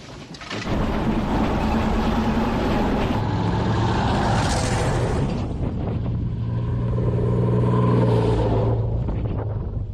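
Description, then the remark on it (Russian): The engine of a battery senior officer's military vehicle roars steadily as it drives to the firing position, a loud, continuous rumble with a droning low hum that shifts slightly in pitch midway, with no voices. “Машина старшего офицера батареи едет на огневую.”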